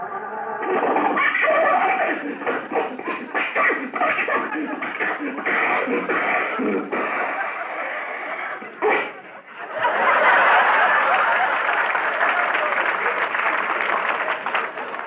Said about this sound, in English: The motor sounds as though it's going from bad to worse. Sounds like it's going from here to eternity.